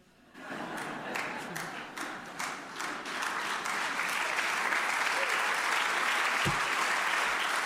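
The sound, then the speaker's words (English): An audience breaks into applause, with dense, steady clapping that swells quickly and holds for several seconds. Faint voices mingle under the sustained hand claps. “I'm so glad you all clapped there, because that means you really knew Michael.”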